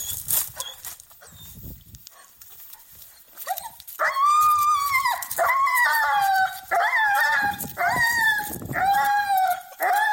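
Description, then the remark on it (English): A dog, Lana, screams and yowls excitedly on the way to the park for a walk, in loud, high-pitched, wavering bursts, one after another with brief gaps, after a few seconds of quieter scuffling and low background noise. “This is genuine audio footage of us going to the park today.”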